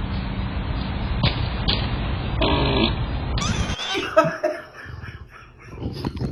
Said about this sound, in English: So what we have is this guy farting and then playing back his Ring doorbell. But is it real?